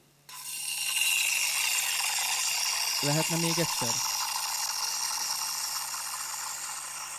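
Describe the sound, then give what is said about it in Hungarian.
A long, steady hiss of gas escaping from an opened bottle starts abruptly and keeps going for several seconds, easing off slightly at the end, while a person briefly speaks midway. “Igazából kinyitunk egy palackot, és abból ilyen hang jön.”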